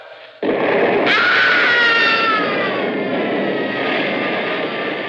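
A sudden loud dynamite blast, set off to dig through a mountain, bursts in and keeps roaring, and moments later a man's high, wavering scream rises over the rumble and trails off slowly.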